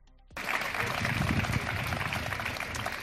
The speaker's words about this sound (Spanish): Una protesta que concluía con este aplauso. Abogados que han querido mostrar así su enorme preocupación por los 4 meses consecutivos de paralización de los juzgados y de los tribunales.